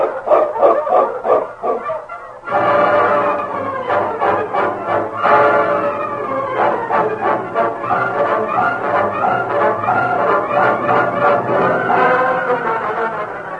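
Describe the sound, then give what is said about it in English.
A team of sled dogs, including a Malamute named King, barks and yelps excitedly and loudly in a continuous overlapping chorus with a steady rush of wind underneath, and no one speaking. “On, King! On, you Malamute!”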